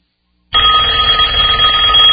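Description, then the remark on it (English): After a brief silence, a telephone bell starts ringing loudly, a continuous metallic trill that carries on unbroken to the end, with no voices. “Does this sound bring on a sudden onset of fear? A fear of not knowing who's on the other end?”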